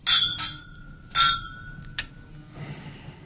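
Glasses clink together in a toast, a few bright ringing taps, the first rings lingering briefly before a softer final clink and quiet rustling.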